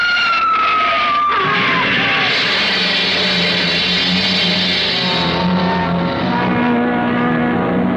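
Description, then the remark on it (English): A car skids about 20 feet with a loud, falling tire squeal, then about a second in slams into the back of a big black hearse pulling out of a cemetery, followed by a sustained roar of engine noise and rattling for several seconds. “We skidded for about 20 feet and slammed into the back of the hearse.”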